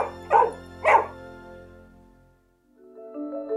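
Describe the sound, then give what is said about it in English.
A dog barks twice, loud, the two sharp barks about half a second apart, followed by a lingering ring and soft tonal sounds as they fade. “Though I may be in a thriving metropolis where technology monitors my every movement, there is something deeply ancient and spiritual that still speaks to my emotions and excites the dog.”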